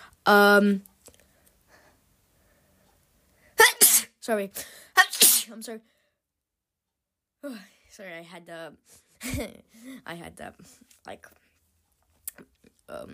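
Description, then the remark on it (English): A loud sneeze opens, then a quick cluster of two or three more sharp, breathy sneezes a few seconds later, followed by a person talking quietly. “I was sneezing.”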